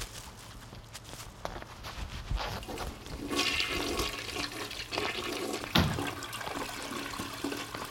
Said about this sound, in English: You're not supposed to flush the toilet.